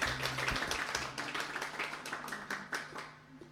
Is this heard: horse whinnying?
no